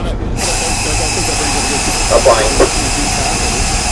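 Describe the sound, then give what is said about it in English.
A train lets off a loud, steady hiss of steam that fills the whole moment without letting up. A few brief squeaky tones rise over it partway through. “But it was really the steam from the train.”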